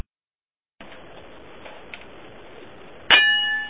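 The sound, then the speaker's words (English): After a stretch of low hiss, a single loud metallic clang rings out as a metal lamp is struck like a gong, its bright tones sustaining and slowly fading. “Man, we got to get the gong back. The gong is downstairs someplace, and the lamp just doesn't do it.”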